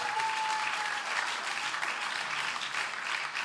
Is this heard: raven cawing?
no